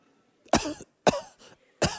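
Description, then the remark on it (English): Three forced, exaggerated coughs from a person faking a cough to seem sick and get a day off ring out loud, each a sharp burst with a brief raspy tail, spaced about half a second apart with a faint throaty sound between. “Pretending to cough like you are sick so that you can get a day off.”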